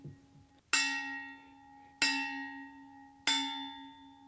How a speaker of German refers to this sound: Und wenn du danach mal auf diese Flasche schlägst, warte mal. Dann nimm dir einfach einen Folienstift. Nimm einfach einen Stift, genau.